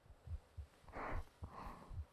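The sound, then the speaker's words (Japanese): A muffled human heartbeat thumps in a steady rhythm, several low beats in quick succession, with soft breathy whooshes rising and fading in the background. “聞こえますか、私の心臓の音が。”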